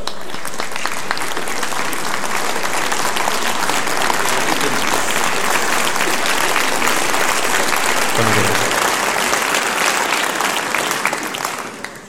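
A large audience on the programme Me Estoy Volviendo Loco applauds steadily for about twelve seconds as a singer is introduced for a birthday tribute, a dense, even wash of clapping that holds its loudness throughout before tapering off at the very end.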